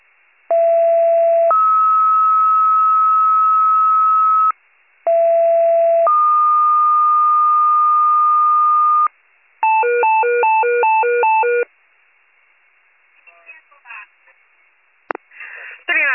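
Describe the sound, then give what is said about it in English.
Two sets of loud two-tone rescue squad dispatch pager alerts, each a short steady pitch sliding into a longer held tone, then a rapid warbling tone burst, with brief radio voice fragments at the end. “39 Rescue, please disregard tones and dispatch for Pohacon.”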